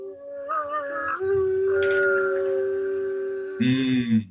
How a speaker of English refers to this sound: You hear them, Mr. Harker? The wolves. The children of the night.